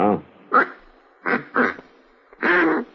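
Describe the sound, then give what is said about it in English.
A duck call blown in short, raspy quacks by someone still practicing with it: five nasal honks in an uneven rhythm, fairly loud, with the last one drawn out longer than the rest. “It takes a little bit of practice, and I ain't got it down exact yet, but I will.”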